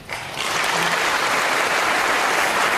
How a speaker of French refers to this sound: Voilà pour ces premiers applaudissements de ce premier discours du président de la République, premier discours dans lequel on retiendra beaucoup de phrases, beaucoup de mots.